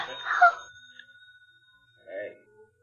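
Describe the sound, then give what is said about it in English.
A pay phone in a booth rings late at night with a steady, fairly faint electronic tone that holds for a couple of seconds, briefly joined by a short vocal outburst at the start and a murmur near the end. “Well, look, you can just let it go and it'll stop ringing. Who calls a pay booth this time of night?”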